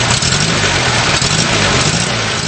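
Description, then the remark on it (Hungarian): A car engine runs loud, a steady low rumble with a slightly rough, pulsing texture, idling with faint hints of revving throughout, no voices. “A szocializmus évtizedeiben a mindennapi utcaképhez hozzátartoztak a csehszlovák autóipar gyöngyszemei, köztük a Skoda 100-as, 110-es és 120-as sorozatok, egészen az 1987-es Skoda favoritig bezárólag.”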